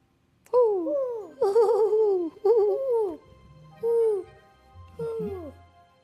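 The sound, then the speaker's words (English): A huge owl that has just flown from a big tree over a meadow hoots in a series of about five wavering, quavering calls that slide downward in pitch, clear, with short pauses between them and no talking. “The shadow hooted again.”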